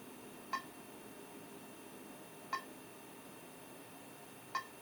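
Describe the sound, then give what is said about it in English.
Three short electronic beeps from a GPS device acquiring a satellite connection just after booting up, indoors on University Avenue in Madison, evenly spaced about two seconds apart, each a brief tonal chirp over a low steady background hum with no talking. “And that beeping tells us that we are acquiring satellite connection.”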